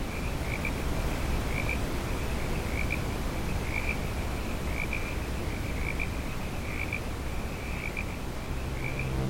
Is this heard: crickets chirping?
yes